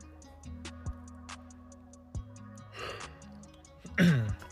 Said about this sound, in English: And it reads, after I yawn real quick.